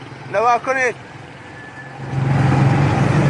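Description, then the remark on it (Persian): A truck engine idles with a steady low rumble that swells louder in the second half, after two short bleating sheep calls near the start. The trucks are being loaded with sheep for export to an Arab country. “الان میبینید چند تا دیگه ماشین رفته داخل و خبر نداره، همه میره کشور عربی.”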